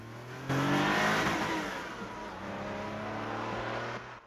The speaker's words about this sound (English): Speeding along a leafy country road.